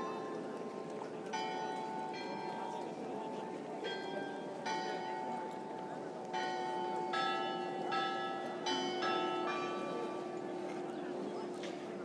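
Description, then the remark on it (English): Church bells chime the Ave Maria at 4 o'clock French time in a square in France: a run of clear ringing strikes in a melodic sequence, some overlapping as they decay, over a steady low rumbling hum throughout. “That is the Ave Maria.”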